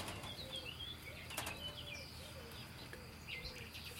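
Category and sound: bird, turtle dove cooing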